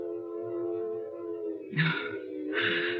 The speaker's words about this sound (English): Oh, that train whistle that's been driving me bats all morning. I must be hearing things. There aren't that many trains a month through Dover Ridge.